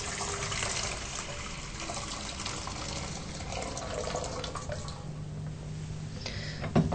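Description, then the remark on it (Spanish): Four cups of boiling water pour steadily into a cooking pot for several seconds, a continuous splashing rush with no talking, ending in a brief clink. “Lo primero que tenemos que hacer es tener 4 tazas de agua hirviendo, que las tenemos acá.”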